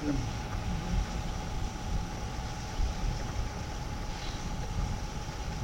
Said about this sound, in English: So it's not, this is just a sound device. That's right, it's a vacuum machine. It's a vacuum machine.